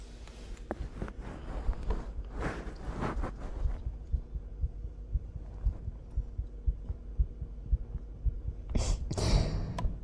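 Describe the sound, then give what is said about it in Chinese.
A muffled heartbeat of a young woman thumps steadily at a quick pace, faster than normal, with soft rustling of fabric and movement at the start and again near the end. “感受到了吗？是不是姐姐的心跳比常人的都要快啊？”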